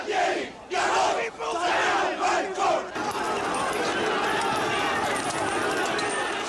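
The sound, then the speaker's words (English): A large protest crowd, gathered before President Leopoldo Galtieri's scheduled outdoor address, shouts insults at his government for surrendering on the Falklands in loud, rhythmic chanted bursts, then swells into a dense, continuous, overwhelming roar of many angry voices. “Anti-British and American signs were hoisted, but most of the insults were directed toward Galtieri's government for surrendering on the Falklands.”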